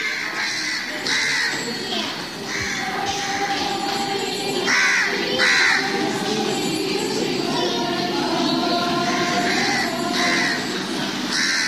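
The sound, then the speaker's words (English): Harsh, repeated crow caws ring out from rooftops around a convent courtyard in a city, over a steady murmur of background noise, several birds calling in overlapping bursts, fairly loud and persistent throughout. “In a city that seems to have gone mad, this little courtyard is an oasis of peace, and the only shattering noise are the screeches of the crows that constantly protest from the rooftops.”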